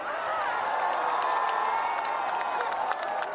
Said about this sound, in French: C'est sous de vives acclamations et des cris de joie des Viva il Papa de près de 3000 fidèles et autres pèlerins venus à Rome au pied de l'hôpital Gemelli que le pape s'est présenté ce dimanche pour la première fois en public depuis le 14 février.